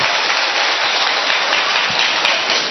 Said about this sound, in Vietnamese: Cho một tràng pháo tay đi cho nó sướng lên thưa anh chị em.